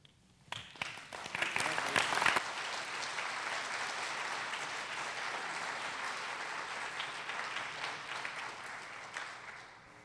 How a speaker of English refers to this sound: Better than a golf clap, but I think we can do better.